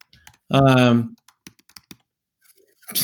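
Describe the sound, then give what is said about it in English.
A brief voiced sound from a person, then a short run of light, irregular keystrokes clicking on a computer keyboard as a chat message is typed, fairly quiet, before another faint voice begins. “You know, I'm typing some things to you like you have a weird butt and emoji virgins and pussies.”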